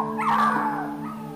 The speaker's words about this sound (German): Als die Welpen euch bemerken, kommen sie fröhlich angehüpft und bellen das süßeste Bellen, das du je gehört hast.